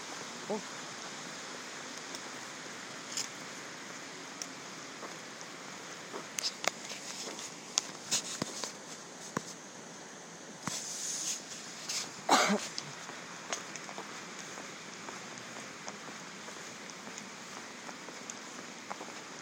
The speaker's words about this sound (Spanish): ¿Y sigue el río ahí? Sí. A lo mejor nos alejamos de las cataratillas, es que ahí está. Sí. Pero ya sé, veo 2 más. ¿Dos cataratas más? Sí. Como a 20 metros, ah, sí. Otra. Hay varias.